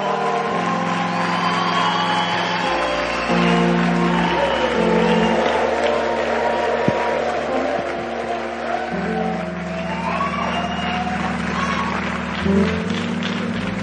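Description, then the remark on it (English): A crowd at a church gathering applauds and cheers without pause, dense clapping mixed with shouts and whoops, while low sustained tones hum steadily underneath the noise, as a guest is called up to give a greeting. “Oh, why don't you put your hands together for”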